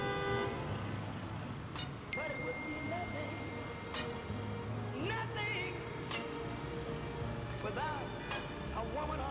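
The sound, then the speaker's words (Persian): An SUV slows down in dense city traffic, surrounded by a steady engine rumble, while several car horns honk at intervals. “راننده خودرو شاسی بلند سرعتش رو کم میکنه، به پیام ارسالی به موبایلش گوش میده.”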